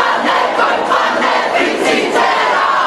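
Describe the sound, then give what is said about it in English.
A protest crowd of tens of thousands chants and cries out together in a dense, continuous roar of many voices, loud and steady with rhythmic swells, echoing through the streets of the capital, Wellington, along the Golden Mile. “The protest cries of tens of thousands echoing through the capital.”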